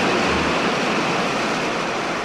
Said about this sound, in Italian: Noi stiamo trasmettendo sotto l'ombrellone e davanti al mare. Si sente? Se affilate un po' l'orecchio, ascolterete il rumore del mare.